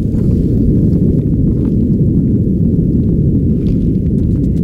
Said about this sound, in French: Les abysses de l'océan Pacifique ne sont pas silencieux. Ils grouillent même de bruit en tout genre. Communication entre mammifères, sous-marins, moteurs de bateaux ou encore tremblements de terre comme celui-ci.